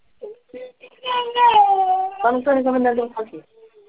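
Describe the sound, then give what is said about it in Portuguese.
A young girl cries, loud wavering wails rising and falling in two long sustained bursts, with short whimpers before and after. “Levar a menina ali pra mim resolver, que ela tá chorando.”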